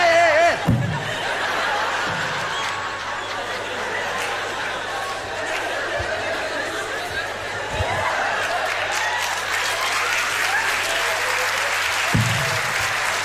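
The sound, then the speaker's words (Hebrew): A crowd applauds steadily for about thirteen seconds, a dense wash of clapping with scattered laughter and a few voices mixed in, holding a fairly even loudness throughout. “אהבתי שאתם כזה, עוד לא כפיים, עוד לא כפיים, גלגול כפיים.”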